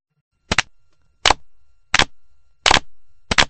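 Five sharp hand claps at a steady, unhurried pace, each a crisp bright smack with a quick doubled edge, separated by short silences, with no voices.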